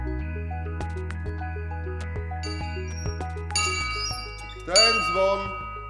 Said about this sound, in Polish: Ten dzwon słyszał pewnie Jerzy Będkowski. No tak, bo to jest oryginalny dzwon.